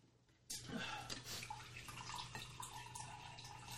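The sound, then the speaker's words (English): Liquid starts dripping and splattering onto a waterproof table about half a second in, a steady wet patter with small irregular drops that carries on to the end. “I'm dripping all over your table.”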